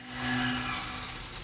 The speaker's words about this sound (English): Wasabi cuts a wonky circle in a metal door.